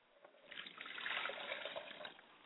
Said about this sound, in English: I pour a glass of water for my mother's side of the family, and I say, Ashe.